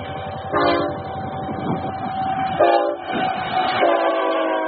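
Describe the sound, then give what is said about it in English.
A BNSF freight train speeds loudly through a passive railroad crossing with a stop sign and crossbucks and no arms, its horn blaring in repeated blasts over the steady roar and rattle of rail cars, with no voices. “That was a BNSF freight train speeding through this passive crossing.”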